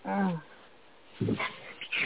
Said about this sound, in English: Yeah, that's Harry. He wants to leave the room. Like, I've been here long enough. Human, let me out. Funny. I heard that meow. I was like, is that a baby? They sound so much like kids.